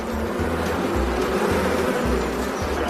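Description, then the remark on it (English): A dense, steady, loud drone of many honeybees, about 30,000 to 40,000 in the hive, buzzing together in an open hive, with a continuous humming texture and no voices. “There are about 30 to 40,000 bees in each hive.”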